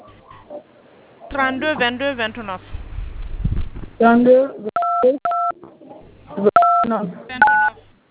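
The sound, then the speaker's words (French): Several short two-tone keypad beeps from telephone dialing sound in quick bursts, clear, interleaved with animated speech and a low rumble in the background. “Monsieur, écrivez le numéro dans un autre téléphone, s'il vous plaît.”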